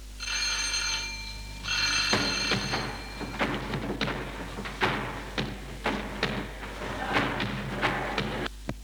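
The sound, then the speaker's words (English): Heavy knocking on a huge, wooden-studded iron door: around ten loud, resonant metallic thuds in an uneven rhythm, after a brief ringing metallic tone at the start. “Standing outside a huge, wooden-studded iron door. I'll knock.”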